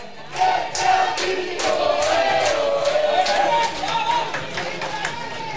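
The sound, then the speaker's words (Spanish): Recreativo football fans cheer from the stands after Salinas scores Recreativo's first goal in the 29th minute, a loud, sustained roar of many voices with raised chant-like shouts and scattered clapping, steady for the whole stretch before easing slightly at the end. “La grada como anima.”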